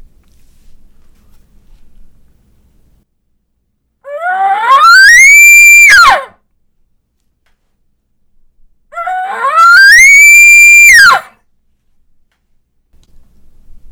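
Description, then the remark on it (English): Two loud bull elk bugles of the bull-calling-cows (roundup) type, blown on a reed call. Each is a rising, harmonic-rich whistle that climbs to a high sustained shriek and then breaks off, with a few seconds of quiet between them. “Next is a bull calling cows bugle or a roundup bugle.”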